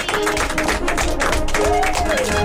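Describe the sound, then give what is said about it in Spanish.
A crowd applauds steadily during the radio program Mis Vacaciones en la radio, dense overlapping claps forming a loud, even patter, with a few voices cheering over the clapping near the end. “Un aplauso a ustedes.”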